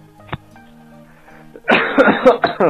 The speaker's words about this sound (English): He's being like me, like coughing into the phone.